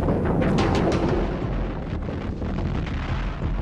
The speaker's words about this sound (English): Bombing the ski sites became a priority. It began 2 days before Christmas. A map graphic shows the locations. Old film, the actual explosions. The heaviest bombing I ever saw. You couldn't see much of anything. There were so many craters.